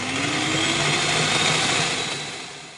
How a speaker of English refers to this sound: They proceed to run over it with a lawnmower, putting on their headphones when greeting with the horrific sound of blade on meat and bone.